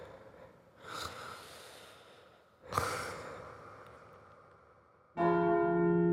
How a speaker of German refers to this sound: Mit dem 7. Glockenschlag fällt das erste Tageslicht durch meine Schlitze auf ein haariges Bündel.